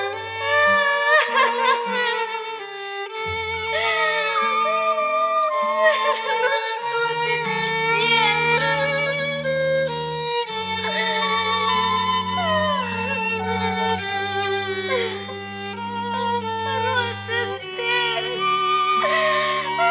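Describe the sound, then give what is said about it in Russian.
A high voice, as a little ant, wails and sobs bitterly in long, wavering, rising and falling cries, fairly loud, over a low sustained musical accompaniment that runs throughout. “Горько-горько заплакала муравьишка.”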